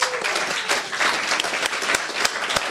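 A burst of audience applause for a quiz show contestant: many hands clapping in a dense, steady patter with a few sharper individual claps standing out, fairly loud and with no voices over it.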